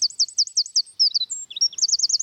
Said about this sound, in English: But the thing that sets this bird apart from all others is its song. Nothing can sing like a wren.